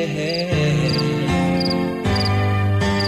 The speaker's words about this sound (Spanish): Llega la noche, pájaros en sus nidos. Se calla el monte, cantan los grillos.